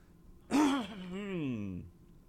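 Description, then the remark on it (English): A single loud cough bursts out, then trails into a long voiced groan that slides downward in pitch for over a second before fading. No other talking. “You know, you take, gosh, I cannot get rid of this cough.”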